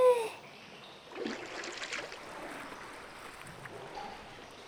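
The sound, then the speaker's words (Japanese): Water sloshes and splashes as someone rises out of a bath to move to the washing area, a burst of movement followed by softer dripping and trickling that fades over a few seconds. “じゃあ一度上がっちゃいましょう。そうしたら、こちらの洗い場へどうぞ。”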